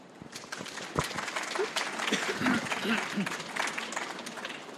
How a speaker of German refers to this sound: Ja, herzlich willkommen und ein kleiner Applaus.